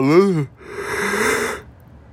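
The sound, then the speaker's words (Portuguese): A vocalized yawn: a brief voiced groan whose pitch rises then falls, followed by a long, breathy, hissing exhale that fades into quiet. “Eu falando dele, ele tá vindo.”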